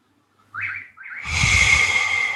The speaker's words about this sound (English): I'm just going to let that bird noise linger for a bit in the background there too, if that's all right. Even the birds don't want to. Even the birds have shut up and kind of grimacing to themselves now.